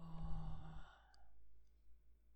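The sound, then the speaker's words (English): A single heavy, sighing breath exhaled, lasting about a second, then fading into a quiet low hum with no talking. “You're breathing so heavily.”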